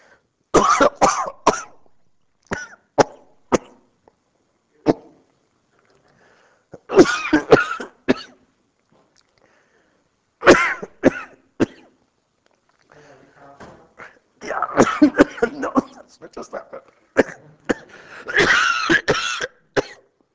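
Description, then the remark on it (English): A person coughs hard and repeatedly in sharp bursts after choking on a cough drop while speaking, with gasping breaths and throat clearing between the fits, loud, lasting around twenty seconds. “For future reference, don't speak and take cough drop at the same time.”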